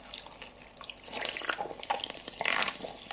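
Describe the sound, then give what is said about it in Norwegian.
Wet slurping and smacking mouth sounds of exaggerated ASMR eating of large kimchi pieces, with a steady run of moist clicks and sucking noises and no talking. “Så det var et eksempel på slurping. Og masse andre knaselyder.”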